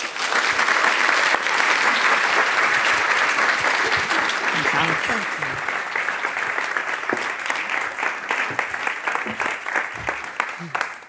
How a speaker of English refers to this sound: Please join me in giving a round of applause to our speakers and welcoming them to the InForum stage.